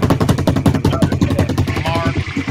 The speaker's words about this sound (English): I feel like I need some kind of drum roll. What do you guys think?